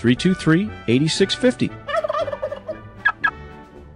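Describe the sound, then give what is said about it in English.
Turkeys gobble loudly in a rapid, warbling burst, followed by a looser string of shorter squawky gobbles and clucks, with no voices present. “And so Thanksgiving was saved because Eustace Emery invented the Plymouth Arrow and recaptured the turkeys.”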